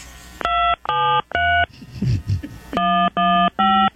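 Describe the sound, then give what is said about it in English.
Six short, steady touch-tone beeps from a phone keypad as a five-digit zip code and the pound sign are entered into an automated account system, three in quick succession, a brief muffled rustle, then three more, each beep loud and evenly held. “Please enter the 5-digit zip code associated with this account, followed by the pound sign.”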